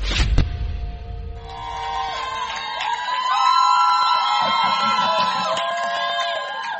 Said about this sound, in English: There will always be those people who are trying to understand what's going on. Why are they always shouting here? The shout of a king is amongst us.